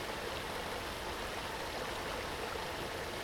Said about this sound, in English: I'm gonna find that waterfall and wash it all off. Okay, follow the water sounds.